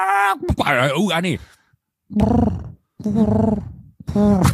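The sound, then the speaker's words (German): A person imitates a pigeon: a long, wavering throaty call, then three shorter, lower coos at a steady, moderately loud level with brief pauses between them. “Mach mal einen Straßenhuhn. Also eine Taube.”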